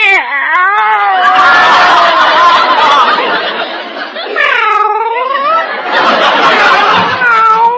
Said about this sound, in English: Well, here they are. Meow. Meow. This one loves to be petted. Meow. So does this one, for that matter.